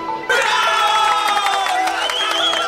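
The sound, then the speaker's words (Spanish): A crowd bursts into loud cheering and applause after a brief quiet start, with overlapping shouts and high whoops sustained over a dense wash of clapping. “También voy a pedir otro aplauso al nuevo equipo administrativo que inició labores este año”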